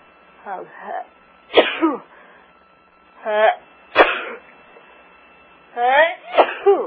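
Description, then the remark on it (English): Three sneezes in a row, each a voiced wind-up breath snapping into a sharp, loud burst, spaced a couple of seconds apart. “I'm going to sneeze, excuse me.”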